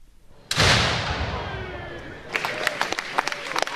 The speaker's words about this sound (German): Mit einem Böllerschuss ist der Festakt im Schachen losgegangen.